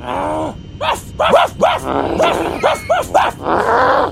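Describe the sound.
A person imitates a barking dog as a stand-in dog sound effect, with a string of loud vocal woofs and yips, about eight short bursts in an uneven rhythm, some drawn out like whines.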